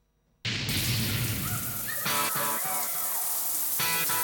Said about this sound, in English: Greg's in the shower, water gushing down on top of him.